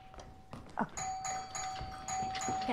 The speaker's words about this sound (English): Daytime at Megan's brownstone apartment. Izzy stands outside. She rings the bell.